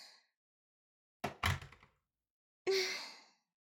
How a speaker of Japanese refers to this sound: まずはドア閉めないと。